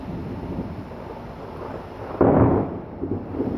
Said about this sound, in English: ooh, that was a lightning strike, I think.